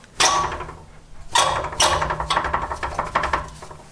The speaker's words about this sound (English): Oh, and check out this sound, the radiator behind the door, so the kitchen makes.